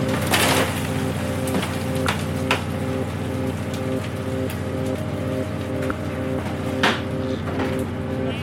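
Freshly caught langoustines wriggling and clicking aboard a fishing boat, a busy scatter of irregular crackles and sharp taps over the steady low drone of the boat engine.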